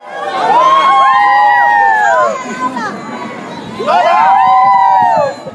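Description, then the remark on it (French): Spectators at a gathering for the Pope doing the wave: two loud, sweeping cheers of many voices, each rising and falling in pitch over about two seconds, separated by a short lull of murmuring. “Ailleurs, des spectateurs font la hola.”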